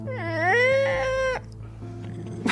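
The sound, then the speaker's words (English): A man's voice imitates the screech of a cat being stepped on, letting out one long, loud, wavering yowl for over a second before it cuts off, followed by a brief quieter noise. “He would make this very strange sound, like somebody stepping on a cat or a baby crying.”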